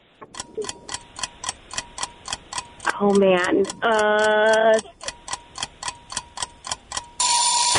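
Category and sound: signal or alarm, quiz countdown timer ticking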